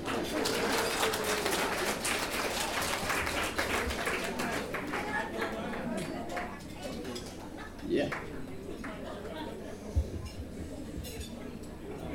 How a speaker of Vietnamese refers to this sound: Xin một tràng pháo tay.